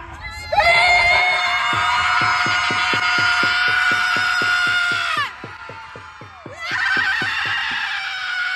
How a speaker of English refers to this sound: Progressive women gathered in New York in a park to collectively scream in rage during International Women's Day protest. Here are the women.